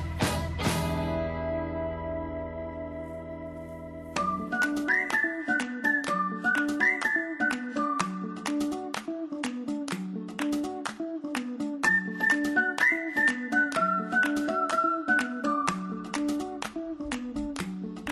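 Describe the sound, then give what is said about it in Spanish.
A whistled melody carries a short, catchy radio theme jingle over a steady, bouncy backing beat, opening with a long held chord before the tune kicks in, loud and clear with no talking. “Cuando son las 12 y 32 minutos, escuchamos estos silbidos.”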